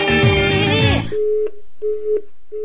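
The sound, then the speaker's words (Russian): A brief burst of music gives way to telephone ringback tones: three steady, mid-pitched beeps repeating with short gaps, clear and moderately loud on a quiet line. “Я слышу длинные гудки.”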